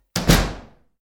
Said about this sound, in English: Oh, someone's left that door open. I'd better close it.